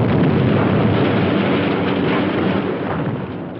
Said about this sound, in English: Another falls on the munitions factory. Massive explosions break apart huge sections of the compound. Workers are trapped on crumbling platforms and in buildings that collapse around them.